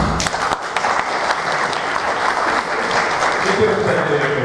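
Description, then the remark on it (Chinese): An audience claps steadily for several seconds, a dense, crackling wash of many hands at fairly even loudness throughout, with no voices rising above it. “OK， 我们应该对我们这个过去好几年的这个发展，我们应该有一点掌声，对吧？”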